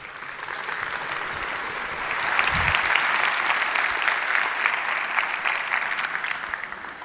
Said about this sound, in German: Einen ganz herzlichen Applaus bitte